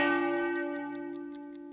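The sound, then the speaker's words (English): A clock bell chimes once at midnight, its rich, sustained tone slowly fading, while a steady, rapid tick-tock carries on underneath. No one speaks. “At midnight, you hear a bell.”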